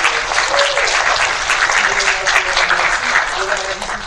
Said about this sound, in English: Please give them both a round of applause.